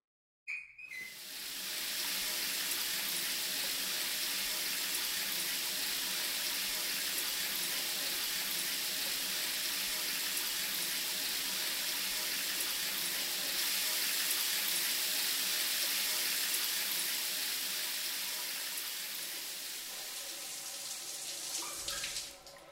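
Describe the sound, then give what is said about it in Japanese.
A shower runs steadily for about twenty seconds, rinsing off shampoo, a dense, even hiss of spraying water that starts abruptly and holds at a constant level before easing slightly near the end. “それじゃあシャワー流していくよ。”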